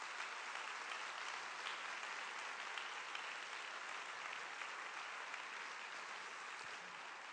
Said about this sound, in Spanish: Hoy, hermanos y hermanas, y dale un aplauso al Señor que es amor, que es vida.